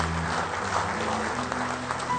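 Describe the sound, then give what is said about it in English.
An audience claps together as praise to the Lord in a dense, steady burst of applause that holds at an even loudness for a couple of seconds, with low sustained tones humming faintly underneath. “Give our Lord one good hand clap of praise tonight.”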